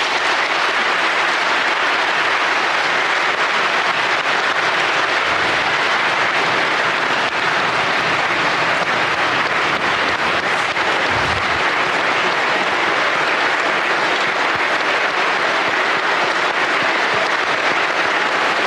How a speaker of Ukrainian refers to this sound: Після підписання присяги у Верховній Раді України Порошенко наголосив, що Крим був, є і буде українським. Цей виступ зірвав найбурхливіші овації у Верховній Раді.